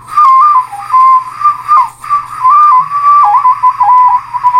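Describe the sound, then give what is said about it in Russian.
A ceramic toy whistle blown in a steady series of short, shrill, wavering toots around one pitch, with brief breaks between blasts and no talking. “Этот не очень удачный свисток.”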